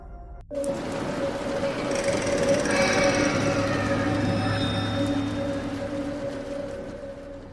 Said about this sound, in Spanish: La carretera se perdía en la oscuridad, un hilo negro que atravesaba el desierto de Coahuila. El motor de mi camión gruñía como un animal cansado